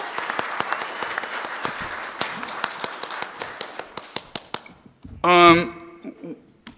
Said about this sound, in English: So let's give him one more round of applause.